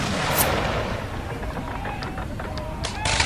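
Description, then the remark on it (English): Two sharp blasts of gunfire and cannon, of the kind that accompanied the Chesapeake Bay oyster harvest, ring out, one early and one near the end, over a steady rumbling, noisy outdoor background with what may be faint, indistinct voices. “Once upon a time, and for a long time, gunfire and cannon blasts accompanied the Chesapeake oyster harvest.”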